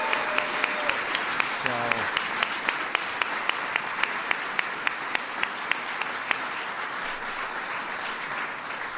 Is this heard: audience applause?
yes